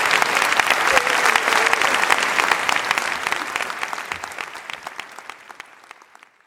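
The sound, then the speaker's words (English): A crowd applauds Ruth Marcus with dense, steady clapping that stays loud for several seconds, then gradually thins and fades toward the end. “All right, let's have a round of applause for Ruth Marcus.”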